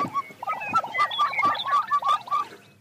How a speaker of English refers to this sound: What's that? So that would be a chicken. Okay, no one got that one.